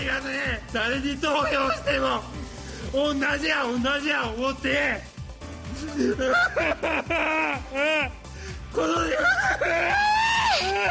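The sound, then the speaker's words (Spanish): A Japanese politician wails and sobs loudly and continuously after being caught in wrongdoing, his voice rising into strained, quavering cries with gasping breaths between bursts, nearly unbroken for the whole stretch. “político al que le pillaron en chanchullos ahí en Japón y lloraba así cuando le pillaron, como diciendo que no voy a ser bueno, que me he equivocado.”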